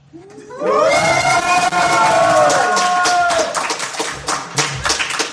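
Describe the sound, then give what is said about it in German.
A small group of people cheers with a rising, sustained "yay" of voices, followed by scattered clapping and a few whoops that gradually thin out. “Ihr müsst jetzt mal kurz so tun, als wärt ihr 100 und damit man euch auf der Aufnahme hört.”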